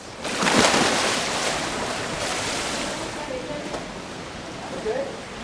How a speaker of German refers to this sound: Mittwochabend, Bad Homburg im Sedernbad, einem typischen Hallenbad aus den 70er Jahren.